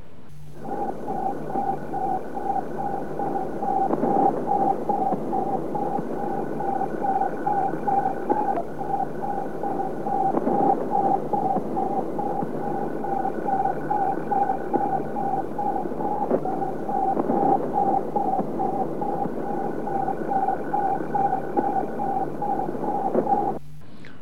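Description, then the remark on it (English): Through a loudspeaker rigged on a hangar wall, hissing radio static gives way to a steady stream of rapid, evenly spaced electronic beeps from an orbiting satellite, continuing unchanged for about twenty seconds at a moderate, constant loudness. “They had to wait what must have been an agonising 95 minutes until the loudspeaker they had rigged up on a wall of the hangar changed from cosmic static to a steady,”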